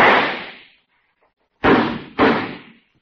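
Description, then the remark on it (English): A single sharp gunshot is fired at night and decays, followed after a pause by two loud, booming echoes from the river below in quick succession, each tailing off slowly. No one speaks. “there's a terrific echo from the river down there. Sure enough? Yeah. Listen, I'll fire once.”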